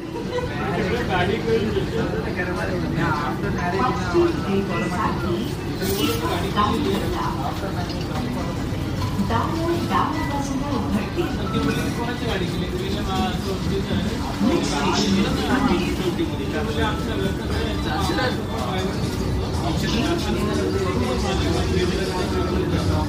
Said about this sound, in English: To this one particular sound of a commuter train in Mumbai